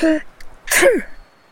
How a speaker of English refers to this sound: Yes, it's a pain. I sneeze all the time and I've got a runny nose.